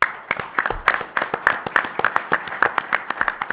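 Audience applause for Valero and its partnership with the Valero Alamo Bowl in San Antonio: a steady, dense patter of many overlapping hand claps at moderate volume, sustained for a few seconds with no voices over it.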